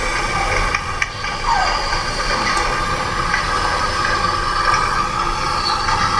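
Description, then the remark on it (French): Construction site noise from three apartment buildings going up around a quiet residential area, heard from 6 a.m. to 6 p.m.: a loud, unbroken mechanical din of engine hum, hiss and whining tones, with a brief knock early on. No voices are heard. “J'y suis installée depuis 2 ans et demi, et le paisible campan où nous avons emménagé depuis près d'un an, cerné par 3 constructions d'immeubles.”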